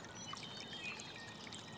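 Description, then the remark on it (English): Water flows and trickles steadily below a bridge, a continuous splashy rush with faint bright gurgles on top, fairly quiet and even throughout, with no voices. “We've got just the sweet furry head of a nutria doing donuts in the water below our bridge.”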